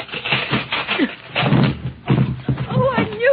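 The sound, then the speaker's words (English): A wooden castle door is chopped and broken down with the Tin Man's axe, with several heavy thudding blows and splintering cracks, while people shout and talk over the noise. “Chop down the door.”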